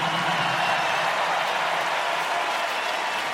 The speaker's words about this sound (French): Mesdames et messieurs, je vous demande d'applaudir … à la batterie. … on the drums.